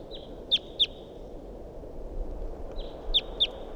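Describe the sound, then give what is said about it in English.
Calls of a wild bird up in a big pine tree above a net, with decoy birds responding, ring out in two quick pairs of sharp, high-pitched notes, each pair rising out of a thin sustained whine, over a steady low background hum. “Wild bird calls and decoys respond.”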